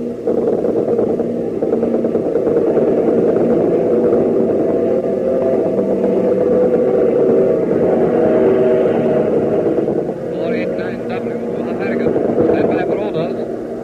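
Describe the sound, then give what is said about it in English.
A Spitfire propeller fighter plane's engine roars steadily and loudly for the whole stretch, a thick continuous drone that dips slightly before swelling again near the end. “The Spitfire just got here.”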